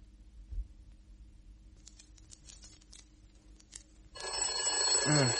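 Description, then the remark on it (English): Faint scattered ticks and taps, then a telephone bell suddenly starts ringing, loud, bright and metallic, a continuous rattling ring that lasts until the end. “I keep hearing bells.”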